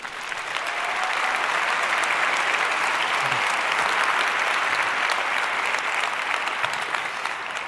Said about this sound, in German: Bitte begrüßt ihn mit einem herzlichen Applaus.